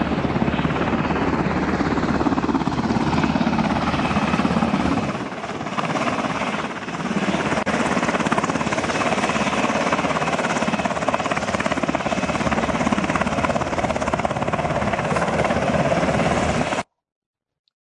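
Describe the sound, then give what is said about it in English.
A medevac helicopter at a helipad runs loud and steady with a dense rotor thrum and a high engine whine, dipping briefly in the middle before carrying on, then cutting off abruptly. “Then time to make the ride from the hospital to the helipad.”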